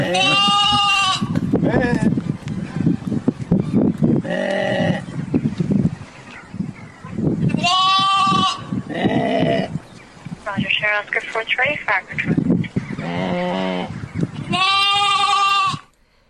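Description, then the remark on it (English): Loud, quavering sheep bleats imitated by firefighters in Northern Ireland trying to lure a lamb that had fallen 8 feet into a drain, repeated several times at irregular intervals, interspersed with brief radio-style chatter. “Did we just sit here and listen to sort of 15 seconds of sheep noises?”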